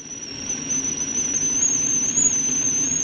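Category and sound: household object, water boiling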